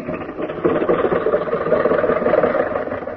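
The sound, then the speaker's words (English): A car engine runs steadily as the car pulls out of a driveway, a rough, rattling mid-pitched drone with a fast pulsing chug that holds at a fairly even loudness throughout. “watch that bump as you go out the driveway.”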